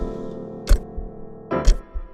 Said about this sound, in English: The clock ticks.